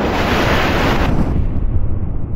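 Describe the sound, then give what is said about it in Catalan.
A strong storm roars steadily outside, a loud, dense rush like heavy wind and pouring rain that dulls slightly after the first second. No voices are heard. “I ara, a fora, una forta tempesta tenyeix el dia de negró.”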